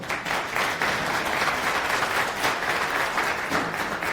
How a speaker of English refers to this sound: Applause.